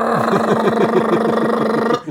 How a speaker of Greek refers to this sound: Σκεφτείτε το λίγο, ότι ακούνε μηχανή αεροπλάνου έξω από το μπαρ.